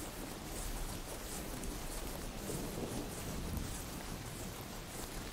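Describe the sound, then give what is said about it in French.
Steady rain hisses and patters while a low, distant rumble of thunder rolls underneath, a continuous stormy wash with no voices, as the first raindrops fall and lightning streaks a darkening sky far off over a meadow. “Vous rouvrez les yeux et apercevez au loin le ciel s'obscurcir et se zébrer d'un éclair qui vient jeter un ray de lumière sur la prairie lointaine.”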